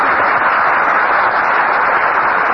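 A studio audience at a Fred Allen radio broadcast applauds steadily, a dense, even wash of clapping that stays loud and unbroken throughout, with no voices heard over it.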